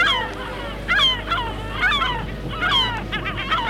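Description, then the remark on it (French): Seagulls flying over a pebble beach under a cold, grey, cloudy sky cry out in a series of harsh, downward-sliding calls, several birds overlapping in bursts over a steady low rumble of background noise. “Les mouettes volent sur le ciel nuageux et passent sur les galets”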